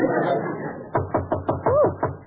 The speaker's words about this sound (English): Jane, do you hear someone knocking? Yes, let's open the door.